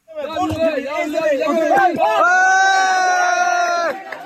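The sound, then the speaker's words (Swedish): A crowd applauds, cheers and shouts excitedly as a woman is slowly pulled out alive through a gap in the rubble after a strong earthquake in Myanmar. Voices overlap before one long, sustained cry of jubilation rings out above the others, then fades. “Applåder och jubelrop när en kvinna vid liv sakta dras ut genom en springa i rasmassorna.”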